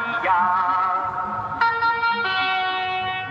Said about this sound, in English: It's full of traditions and idiosyncrasies, like the Rodania car that drives ahead of Belgian bike races, blaring an ad for Rodania watches.